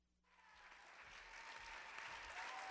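Audience applause bursts in and swells into a dense, steady wash of clapping that grows slightly louder over a few seconds, with no voices over it.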